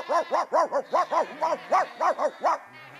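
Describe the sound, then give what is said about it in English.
A three-legged dog barks rapidly, about ten sharp yapping barks in a quick steady rhythm, fairly loud, with no other voices, as it hops into action to stop lambs in a street. “The three-legged dog, sensing a paying job, hops, bounces and limps into action.”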